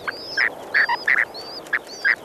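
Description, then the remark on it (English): Newly hatched spoon-billed sandpiper chicks at a nest in Chukotka give thin, high cheeps while the male they hatched beneath repeats stronger, louder beeping calls, about six short bursts across a couple of seconds with no talking; recorded by Gerrit Vin. “You can hear the tiny cheeps of the chicks and their father's stronger peepee beeps.”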